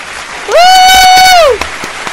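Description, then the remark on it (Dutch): Applause and crowd noise for the announced winner of the Stamppodcast Award run through the background while a loud, sustained horn-like tone swells up, holds for about a second, then slides down and fades. “Het is wel erg lang met applaus.”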